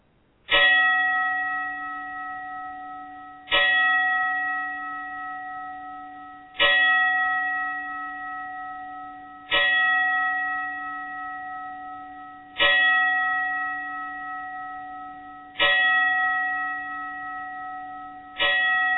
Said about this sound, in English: I assure you, ladies and gentlemen, I will be standing with you in respect as we give a 10-bell salute to the late Brian Pillman. Please stand.